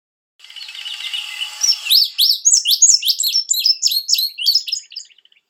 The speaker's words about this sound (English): The indigo bunting is a bird that can be spotted in the North Carolina Piedmont, but mostly from mid-April to mid-October when it uses this area for breeding grounds.